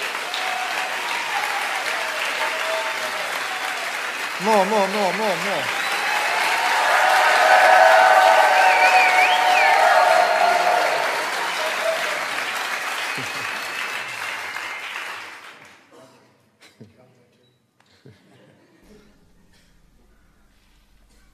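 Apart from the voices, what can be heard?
audience applause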